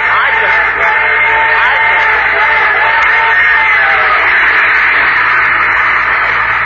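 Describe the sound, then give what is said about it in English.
A Super Chief passenger train sound effect: a steady, loud roar of rolling noise that holds for several seconds, with faint whistle-like tones drifting through it and no talking. “That's a super chief. But there ain't any railroad tracks out in the desert.”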